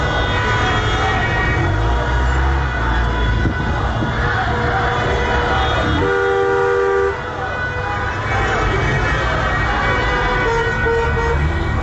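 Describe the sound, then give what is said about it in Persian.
Many car horns honk continuously and loudly, overlapping in sustained and repeated blasts, as people block the streets with their cars, over a dense wash of crowd voices chanting slogans at a street protest at the Gohardasht branch of Azad University in Karaj, Iran, on Saturday 16 Mehr 1401, as security officers arrive. “شنبه 16 مهر 1401 گوهردشت کرج شعار دارن میدن، ماموران اومدن، مردم هم با ماشین خیابونا رو بستن.”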